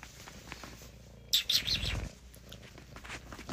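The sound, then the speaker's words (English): A cat purring, a low, rough rumble that swells for about a second amid some soft rustling, then fades back into quiet background noise. “Hear that kitty purr.”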